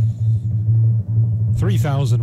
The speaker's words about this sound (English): We want to announce, oh, a little timpani, look at that.